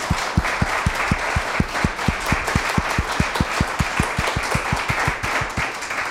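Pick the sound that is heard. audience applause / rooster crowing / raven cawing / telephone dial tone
audience applause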